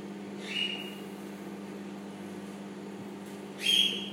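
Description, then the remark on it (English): A microwave oven runs with a steady, low electrical hum throughout, while two brief high-pitched whistling tones rise over it near the start and again near the end. No one speaks. “Sounds like a microwave should.”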